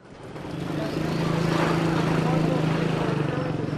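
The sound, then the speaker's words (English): Small motorcycles piled high with goods buzz through the narrow alleyways of Tehran's Central Bazaar, their engines a steady, droning hum that swells in the first second and then holds, with faint indistinct voices in the background. “Small motorcycles piled precariously high with goods drive through narrow alleyways.”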